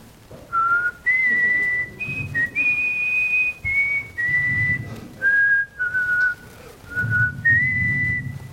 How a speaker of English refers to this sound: I whistle. Sometimes I sing.